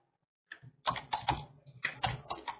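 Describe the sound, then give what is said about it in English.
Rapid clicking of keys on a computer keyboard, a steady burst of typing that starts after a brief pause and continues in quick uneven clusters, with no voices. “I'm just typing it out.”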